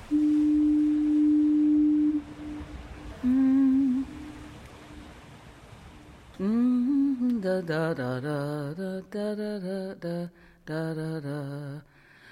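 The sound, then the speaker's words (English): A deep, steady foghorn blast sounds for a couple of seconds, then a shorter second blast, both hollow, before a voice begins singing a wavering melody. “This is a foghorn, a thing that evolved entirely because of fog.”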